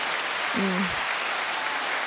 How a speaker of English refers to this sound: You hit the little cheer. The I know. What a beautiful thing. I love that button so much. So uplifting.